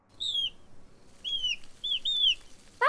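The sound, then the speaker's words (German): Several thin, high whistled calls from a pair of blackbirds nesting in a garden, each a short sliding note, come in loose bursts over a soft background rumble, ending with a sharper, louder call. “Tatsächlich, ein Amselpärchen.”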